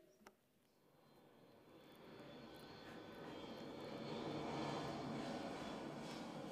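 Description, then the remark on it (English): An airplane engine sound effect drones steadily, building from a low hum into a louder, fuller roar over several seconds as it powers up. No one speaks. “Let's hop on the plane.”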